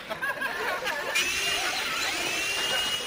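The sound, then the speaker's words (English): A high-pitched dental drill whines steadily for about three seconds, its thin tone rising slightly over a bed of hiss, with faint murmuring voices underneath. “Now, Professor, I believe we are ready to commence drilling.”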